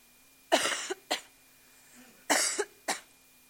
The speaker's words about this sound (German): Gut, in der Zeit kann ich schon mal husten.